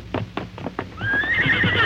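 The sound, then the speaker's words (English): A few sharp, evenly spaced hoofbeats clip-clop, then a horse lets out a long, loud, high whinny that carries to the end, with no talking; horses being taken to follow the trail of outlaws in a Lone Ranger story. “All right, let's get the horses and follow the trail of those outlaws, Tonto.”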